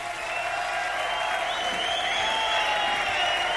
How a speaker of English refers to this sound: I don't know if it's possible to appreciate on the radio the noise level, the sheer volume of the applause and shouts and cheers and rhythmic clapping that's going on here at the bottom line, but it far and away surpasses anything I've seen here